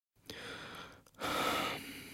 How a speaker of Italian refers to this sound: Aspetti, non riesco a sentire bene. Provi a respirare più profondamente. Ancora. Ecco. Bene, così. Dei bei respiri profondi.